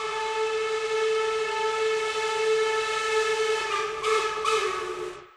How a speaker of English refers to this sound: Besides the string quartet and the human voices, you hear train sounds, particularly train whistles.